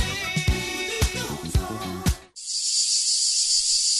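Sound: cicada chirping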